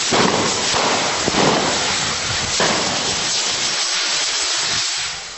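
Firecrackers pop and crackle in a dense, hissing outdoor din at a street festival, with a few sharper bangs standing out from the continuous noisy wash. They are thrown in a mock battle in a church square, where 4,800 firecrackers are thrown along with thousands of eggs and 3,000 kilos of flour. No one is talking.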